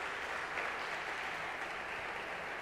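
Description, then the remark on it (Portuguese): A crowd of people claps together in sustained applause for Jesus after a prayer, a dense, steady wash of many hands, with no voices standing out. “Dê uma linda salva de palmas para Jesus.”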